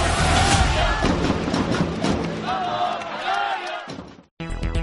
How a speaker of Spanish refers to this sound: 5.000 gargantas para un solo grito.